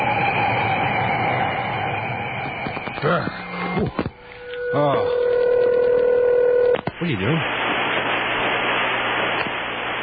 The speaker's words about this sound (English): That's what you get when you dial that number right now. Well, you get the sound of a winter storm, of course.